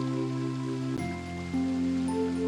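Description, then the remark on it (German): Steady rushing water of a waterfall pours continuously down beside a rock face like a curtain, blended with sustained, shifting musical tones that hold throughout. “Auf der einen Seite fällt das Wasser wie ein silberner Vorhang hinab.”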